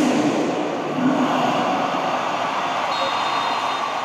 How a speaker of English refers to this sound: So, athletes will see selfie videos of fans at their competitions and hear recorded sounds of cheers like this.